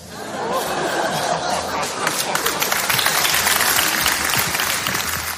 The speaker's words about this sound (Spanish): Bueno, un gran aplauso.